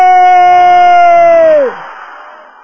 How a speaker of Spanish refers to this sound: Que se escuche todos los que están en el culto, los que están allá atrás también, los que están por ahí, los que están por allá. Vamos arriba todo el mundo, este es el último grito de victoria.